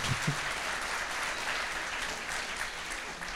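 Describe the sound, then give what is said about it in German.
Steady audience applause, a dense wash of many hands clapping that stays even and fairly loud for a few seconds, with no voices standing out. “Bienenstich, sehr gut. Ja, Applaus.”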